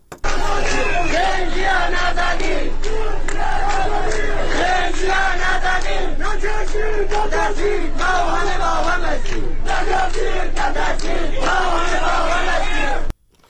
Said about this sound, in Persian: ویدیوهای دریافتی نشان می‌دهد از بامداد دوشنبه به ویژه در شهر دیواندره استان کردستان تجمع بزرگ اعتراضی جریان دارد.